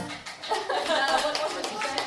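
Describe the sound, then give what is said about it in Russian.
A crowd claps steadily for about two seconds, a dense patter of many hands at moderate loudness, with faint voices murmuring underneath. “Я вообще люблю, когда мне подпевают, хлопают, это прекрасно, ребят.”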